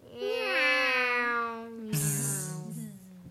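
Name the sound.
cat meowing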